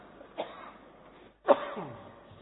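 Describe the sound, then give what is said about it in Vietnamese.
A Buddhist lay follower coughs during a teacher's dharma talk: two short coughs about a second apart, the second louder and rougher with a raspy, throat-clearing tail, over a quiet hum. “Đấy, Phật tử thương cho nên ho luôn.”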